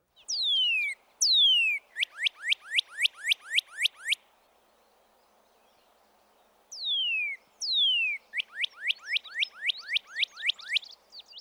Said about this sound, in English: You can tell them apart, however, by listening for the radical up or down slurring in the cardinal's liquid whistles and the steadier pitch of the titmouse's slurred whistle. First, the cardinal.